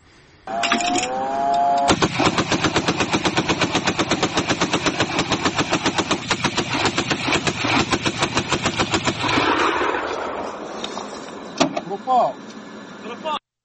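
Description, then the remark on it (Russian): Loud, sustained bursts of anti-aircraft cannon fire, shooting down Shahed drones at night over Ukraine, pound in a rapid, steady rhythm for about eight seconds, then trail off into scattered bangs and outdoor noise. “Сбивает, судя по звуку, зенитной пушкой.”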